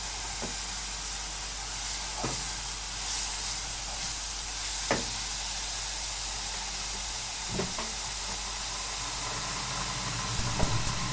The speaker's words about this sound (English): Kettle's boiling, the vegetables are soft now.